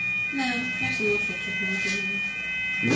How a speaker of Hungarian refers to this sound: Ez egy riasztó. Ez itt nem van? Ez bent van nálunk. Valaki felgyújtotta a konyhát?